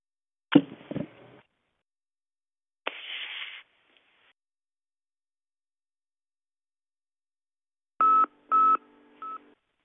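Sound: telephone keypad DTMF tones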